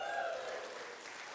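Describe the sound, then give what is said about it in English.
An audience applauds in a dense, steady wash of clapping that holds at an even level throughout, with a brief tonal voice or cheer fading out in the opening moment. “I know your applause is for what she's endured.”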